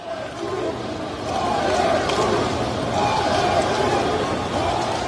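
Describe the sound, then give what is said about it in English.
The crowd remaining at Yankee Stadium at the end of a game chants "Fire Boone" in unison, a dense, steady roar of many voices with rhythmic swells of shouted syllables rising and falling over several seconds. “And the crowd at Yankee Stadium that remained at the end of this game was very clear about how they feel.”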